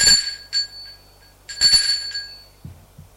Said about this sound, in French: Il sonne à la porte parce qu'elle ne lui a pas donné les clés.